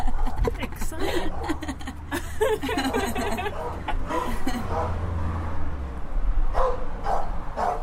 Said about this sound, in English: Exciting. Sounds big. Do you like dogs?